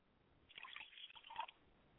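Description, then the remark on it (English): Liquid is poured out as a libation to the south in a short, soft stream, spattering and dripping onto a surface for about a second before falling quiet. No voices, fairly faint. “I pour libation to the south, and I say Ashe.”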